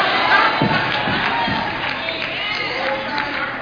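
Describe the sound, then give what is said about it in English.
A church audience shouts and cheers together, a dense, steady roar of many voices with scattered whoops rising out of the din, sustained throughout at a fairly loud level. “Save some of that shouting for Monday.”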